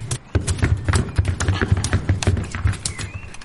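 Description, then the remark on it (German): Quick, uneven footfalls patter across a hard surface, several children running excitedly together down a street in a brisk, clattering rhythm, moderately loud, with no one talking. “Die Kinder rennen aufgeregt die Straße hinunter.”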